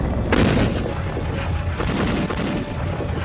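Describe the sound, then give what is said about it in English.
Heavy artillery fire at the beginning of an attack, heard on stepping outside a mess hall, rumbles continuously, with a sharp, loud blast early on and another strong boom partway through, over a dense, low roar that never lets up. “Heavy, heavy, heavy artillery fire.”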